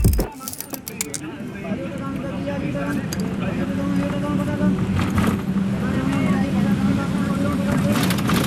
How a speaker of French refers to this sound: Nous avons pris place à bord d'un bus qui nous emmène au Parlement, enfin ce qui reste du Parlement, puisque c'est un des bâtiments qui a été visé pendant les manifestations des jeunes. Enfin, c'est un peu chaotique dans ce bus